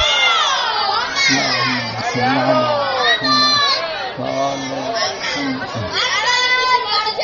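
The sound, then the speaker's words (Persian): A large group of voices, many of them children, chants a salawat blessing together in unison, loud, with rising and falling rhythmic phrases that fill the whole stretch, at a gathering for Eid al-Ghadir. “دوستانی که آماده هستن یه صلواتی بفرستن.”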